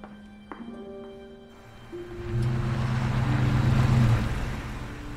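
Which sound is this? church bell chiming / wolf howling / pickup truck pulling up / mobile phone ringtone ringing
pickup truck pulling up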